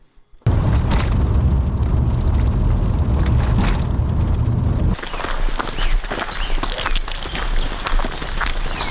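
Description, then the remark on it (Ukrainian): A loud shelling blast in the area of Bakhmut, Ukraine, erupts into a heavy rumbling roar lasting several seconds, then cuts to hurried footsteps and rustling movement over a quieter, crackly background; filmed by a Radio Svoboda correspondent under fire. “попал под обстрел в районе Бахмута.”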